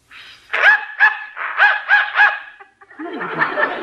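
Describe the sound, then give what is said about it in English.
A dog barks five times in a quick, uneven burst, loud, in response to a dog whistle that a human cannot hear. The barking then stops and a rougher, noisy scuffling sound follows. “Dog heard it, but I didn't.”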